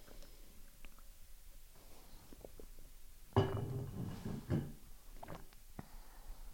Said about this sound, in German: Aber ich trinke erstmal einen Schluck Wasser.